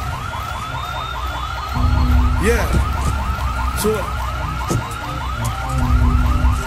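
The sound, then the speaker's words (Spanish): A car alarm blares a rapid, steady run of repeating warbling chirps throughout, during a staged car theft by Budas Family in Ponce, with a low rumble building underneath and a brief voice speaking in the background. “Ok, ahora yo les voy a presentar con ustedes un robo de auto que lo hizo Budas Family.”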